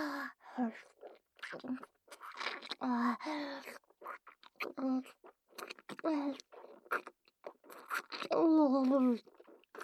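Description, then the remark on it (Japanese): Wet licking and sucking mouth noises of tongue sucking come in short irregular bursts, mixed with soft breathy vocal sounds and murmured voice throughout. “舌しゃぶらせて、主様のぶっといベロ、なめなめさら。”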